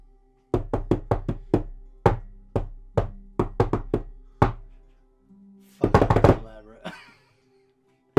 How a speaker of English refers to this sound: And I go over and I'm giving the secret knock.